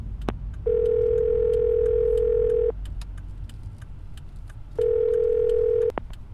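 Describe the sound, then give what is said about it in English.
A car phone placing a call sounds two long, steady electronic tones separated by a pause of about two seconds, heard over a low, continuous engine rumble with no one speaking. “I'm going to call Pierman and give him another update. We can do that in our car phone.”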